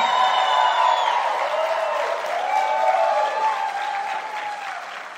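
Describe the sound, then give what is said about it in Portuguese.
Sustained audience applause for the social movement, a dense steady clatter of many hands clapping, loud throughout and tapering slightly toward the end, with faint whoops and cheers mixed in. “E uma salva de palmas também para o movimento social, que para mim vocês são sinônimo de resiliência.”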